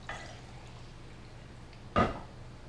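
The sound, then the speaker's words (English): Water is poured for a drink in one short splash of liquid, a quick gush over a quiet background with a low steady hum and no talking. “Need some water, excuse me.”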